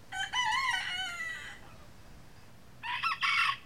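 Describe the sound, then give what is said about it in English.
A rooster crows loudly, a long drawn-out call, then after a brief pause a second crow begins, with no talking, among the chicken farms surrounding a farm in Del Mar on Maryland's Eastern Shore. “The farm in Del Mar, where April Farrell grew up and still lives, is surrounded by chicken farms.”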